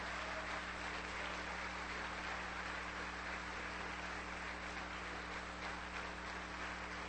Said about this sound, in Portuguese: Irmãos, eu quero que você aplaude Jesus, porque Ele é digno.